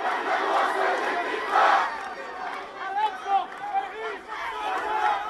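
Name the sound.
angry crowd chanting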